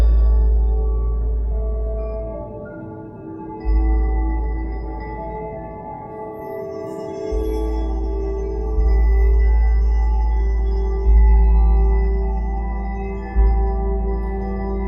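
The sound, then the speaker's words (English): A wind chime sound sculpture in the garden at Victoria Miro rings with long, overlapping metallic tones that sustain and shimmer, freshly struck a few times, over a steady low rumble. No one speaks. “We're looking at this amazing wind chime sound sculpture echoed upstairs They have some sort of mechanism internally, do they, that generates sound at random?”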